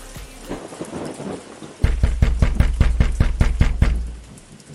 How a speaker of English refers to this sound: Whose door are you knocking on like the police?